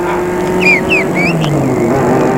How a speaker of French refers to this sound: Tout en marchant, il marche sur une route au hasard. Une voiture vient.